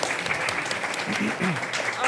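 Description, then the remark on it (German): Steady applause from a crowd fills the whole stretch, given to a team awarded 20 points in a quiz game, a dense, even patter of many hands clapping at once, with faint voices murmuring underneath. “Applaus auf jeden Fall.”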